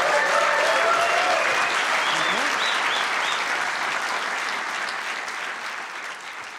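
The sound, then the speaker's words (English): A large audience at the Atheist Alliance International Convention in Burbank claps steadily to welcome Professor P.Z. Myers, a dense wash of applause that slowly tapers in loudness over several seconds, with faint voices and whoops mixed in. “Okay, wow, what a crowd.”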